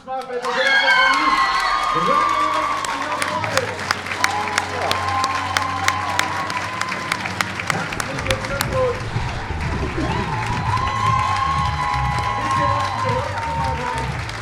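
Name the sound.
audience cheering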